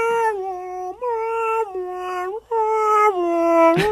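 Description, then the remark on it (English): A voice does a sound effect imitating an ambulance siren coming down the street, a sustained, loud wail that alternates between a lower and a higher pitch, cycling several times in a steady two-tone pattern, with no talking over it. “Ambulance coming down the street.”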